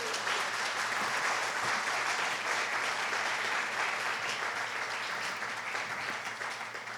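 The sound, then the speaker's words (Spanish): An audience applauding during a church sermon claps steadily for several seconds, a dense, sustained wash of applause at an even level before easing slightly at the end. “Y dale un aplauso, es mejor que él sea.”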